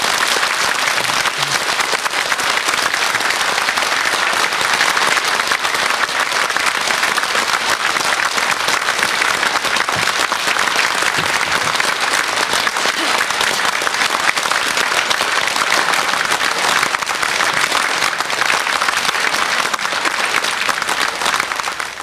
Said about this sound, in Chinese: 咱来做一下先呢，诶，这个掌声来恭请师傅开始。